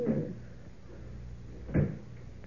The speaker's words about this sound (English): There we are. Door's locked and I've got the key.